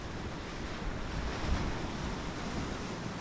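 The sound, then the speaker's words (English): Storm-driven waves crash against the shore on the Bering Sea coast of Alaska's Aleutian Islands, a few feet from an archaeological dig site, in a steady, loud roar of surf with wind noise, swelling briefly near the middle, with no voices present. “Only a few feet away from the Uducton archaeological dig site, waves from a storm are crashing into the shore.”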